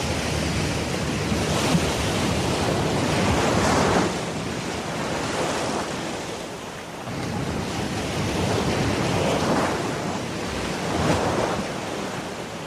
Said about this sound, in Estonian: Või seilates laevaga tormisel merel.